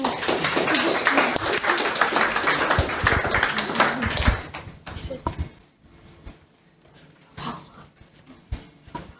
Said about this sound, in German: Gut, dann übergebe ich an euch. Großen Applaus bitte.